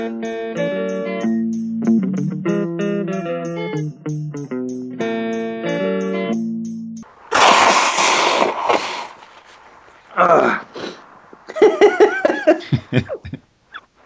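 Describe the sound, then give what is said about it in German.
A short musical passage ends, then someone blows their nose in a loud, noisy blast, followed by a few shorter snorting, sniffling bursts. “Ich muss mir erst noch die Nase putzen.”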